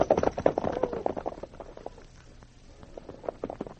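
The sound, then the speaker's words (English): Horses, one named Blackie, being driven off: hooves clatter in a quick, uneven run of sharp thuds, loud at first and then growing softer as the gallop fades. No voices are heard. “Let's get rid of the horses. Get up, Blackie. Get up there.”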